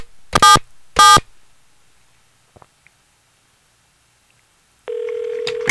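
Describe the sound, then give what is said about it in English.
An outgoing phone call ringing: two short, loud, buzzy rings in quick succession, then near-silence, before a steady electronic line tone with faint hiss comes in near the end. “Calling DJ the Barber.”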